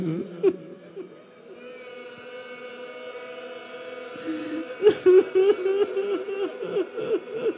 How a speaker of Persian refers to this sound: خدای دلو ازت نگیره، من که برات روزه نخوندم هنوز، دارم روایت میخوانم و گریه میکنی.